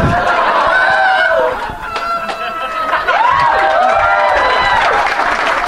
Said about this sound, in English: Ryan Stout is now standing. He's receiving adulation from the crowd. They are applauding him.